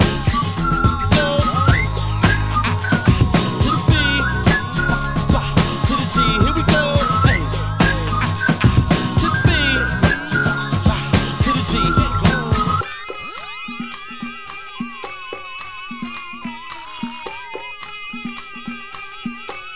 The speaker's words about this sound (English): As I walk down the street, whistling this